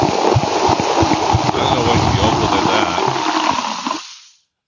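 Beer pours steadily into a glass, a continuous gurgling, fizzy splash that runs for about four seconds before cutting off abruptly.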